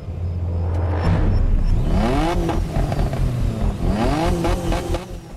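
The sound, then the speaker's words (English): Sports car engines, including a Mustang and a 350Z, rev hard and roar off from a start line at night, their pitch climbing sharply through rising gear sweeps, then dropping and surging again as they accelerate away, loud with a steady rumbling undertone. “He swings them down, and the cars take off.”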